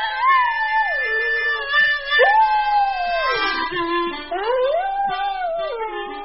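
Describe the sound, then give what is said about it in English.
A black Australian Labradoodle howls in long, rising and falling wails while her owner plays steady harmonica notes alongside, the dog's voice sliding up and down over about three loud howls. “She loves playing tug-of-war, is obsessed with bunnies, and sometimes accompanies me on the harmonica.”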